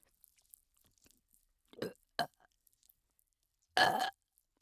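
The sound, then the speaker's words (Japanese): Two short guttural gulps, then a louder, drawn-out burp about a third of a second long, recorded very close and intimate against near silence, with no talking. “耳元ゲップ、最高だね。もう一回いくよ。”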